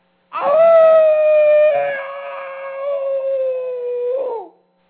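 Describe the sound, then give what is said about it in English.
A person lets out a single long, loud howl, imitating an animal. The drawn-out cry holds steady for about four seconds, then dips and breaks off abruptly. “I howled like an animal from the abyss, an involuntary reflex of raw, primitive emotion.”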